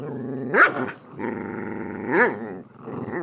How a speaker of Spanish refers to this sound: ¿Cómo no ceder ante el tono del ladrido de un perrito cuando quiere jugar si es tan tierno?